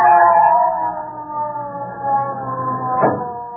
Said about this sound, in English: What's that, Daddy? Oh, I think it's the ambulance.